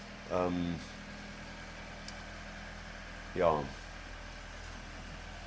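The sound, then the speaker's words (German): A low, steady engine drone hums in the background throughout from a tractor driving past outside, while a voice speaks two brief words over it. “schöner Traktor, gell?”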